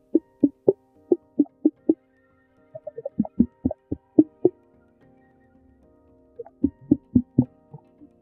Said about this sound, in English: Gray whales use clicks to communicate, and different frequencies and intervals of clicks mean different things. So listen closely.